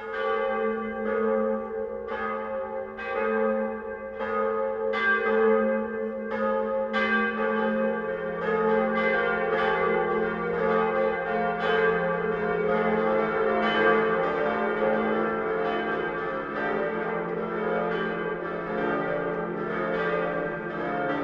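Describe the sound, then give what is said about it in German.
Church bells of the parish church of St. Peter in Munich ring the 12 o'clock midday peal, strikes landing in a regular rhythm at first, then merging into a full, overlapping peal with a deep humming tone underneath, loud and sustained with no voices. “Das Mittagsläuten kommt heute von der Kirche, die als erste in der Geschichte Münchens erwähnt ist, von der Pfarrkirche St. Peter.”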